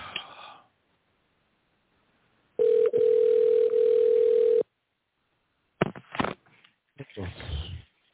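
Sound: telephone call ringing tone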